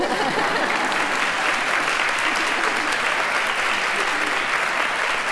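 Steady, sustained applause from a crowd, dense overlapping clapping at a constant loud level throughout, with no pauses or voices standing out.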